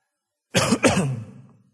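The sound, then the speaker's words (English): A loud cough in two quick bursts that trails off into a throaty rasp, with silence before and after and no talking. “Excuse me, I know that was loud. But I had to cough.”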